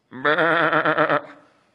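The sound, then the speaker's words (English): A single wavering bleat, loud, lasting about a second with a tremulous pulsing quality before trailing off. It sounds like a human voice imitating a sheep or goat. “Then what's all the bleating of sheep and goats and lowing of cattle that I hear?”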